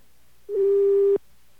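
A single steady electronic telephone tone from a number on a special FEMA government area code sounds for under a second, loud, then cuts off abruptly, a line prompt waiting for touch-tone input.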